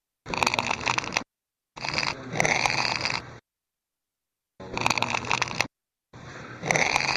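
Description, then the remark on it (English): Four separate bursts of dry, crunchy crackling from a piece of tin being bent (the so-called tin cry), each lasting one to two seconds with silent pauses between them. The noise is fairly loud and gritty, with no voices. “you'll get at very best some sort of crackling, which to me is not a cry”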